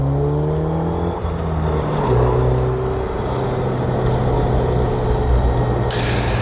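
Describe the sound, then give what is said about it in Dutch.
A Renault Megane Trophy R hot hatch accelerates hard on a lap, its engine note climbing steadily through the gears with shifting harmonic tones, loud, with road and wind noise and no talking. “Heb je wel een auto die ja, sociale isolatie tot iets aangenaams maakt. Ga nog even een rondje.”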